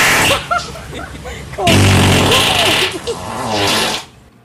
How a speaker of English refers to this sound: One fart? No, that was three separate ones.